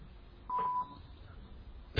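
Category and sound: signal or alarm, electronic beep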